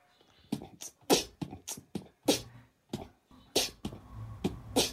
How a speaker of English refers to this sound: Beatboxing cat. Let's see it.